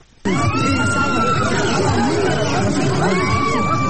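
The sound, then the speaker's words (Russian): A dense, agitated crowd clamors loudly during clashes in Dmanisi, Kvemo Kartli, Georgia, with several shrill, drawn-out screams from terrified women rising over the steady din of shouting and swearing in Georgian, Svan and Azerbaijani, and dull blows. “Пронзительные крики пришедших в ужас женщин, брань на грузинском, сванском и азербайджанском, звуки глухих ударов.”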